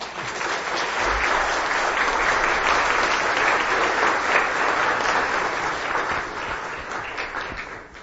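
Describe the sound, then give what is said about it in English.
Sustained applause from a large audience welcoming a guest speaker before a sermon, a dense wash of many hands clapping at a steady, loud level for several seconds before gradually beginning to taper off at the end. “You might want to save the applause till after the sermon, if it's any good.”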